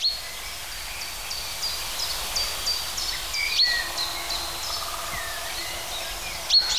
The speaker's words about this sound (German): Und das ist jetzt sein Kontaktruf. Eindeutig keine Kohlmeise. Pink. Pink, pink.